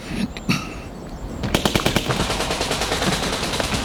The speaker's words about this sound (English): He heard the automatic gunfire and felt it in the pit of his stomach.